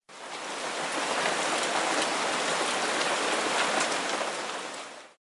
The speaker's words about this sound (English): To make matters worse, I could feel raindrops. A few seconds later, it was pouring.